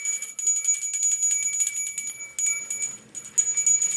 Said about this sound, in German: Der ist häufig am Handy oder spielt mit meiner Glocke, die ich letztes Jahr zum Wichteln bekommen habe.